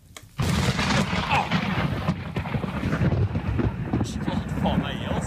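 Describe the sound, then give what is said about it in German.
A sudden, violent thunderclap from a lightning strike on a high plateau in southern Norway bursts in after a brief quiet moment, then rolls on as a loud, sustained rumble with wind buffeting the microphone, sounding harsh. Recorded on a mobile phone by hunters about 3 kilometres away during a severe thunderstorm. “Jäger waren am Wochenende nur 3 Kilometer entfernt vom Blitzeinschlag und haben ihn zufällig mit dem Handy aufgenommen. Ein gewaltiger Knall.”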